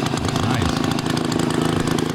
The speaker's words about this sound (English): That's Rob's rototiller.